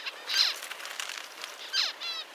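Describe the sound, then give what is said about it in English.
High, thin calls of a parent finch signalling hot conditions to its young repeat, with two louder bursts of descending chirps separated by softer twittering, and no voices. “Scientists are still figuring out how exactly this sound signal from the parents ends up changing their offspring's development.”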